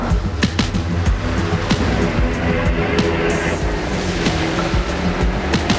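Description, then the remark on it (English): A car drives along through street traffic while following a black SUV, its steady engine and road rumble loud, with a continuous wash of passing-vehicle noise and occasional sharper clicks and knocks. No one speaks. “They pull alongside traffic on the street.”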